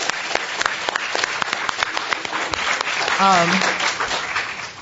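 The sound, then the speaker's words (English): An audience at an activist encampment gathering applauds steadily, dense clapping sustained throughout, with a brief voice or whistle-like tone rising through it around the middle. “but there are tons of campers out here in the audience that have held down the encampment for the last 2 months, and they should definitely get a round of applause.”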